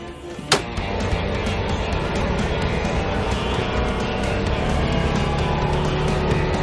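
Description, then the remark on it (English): A Rhino side-by-side utility vehicle drives along with a steady, rumbling engine and road noise that stays loud throughout, after a sharp knock or clunk near the start. “Oh, this is my Rhino.”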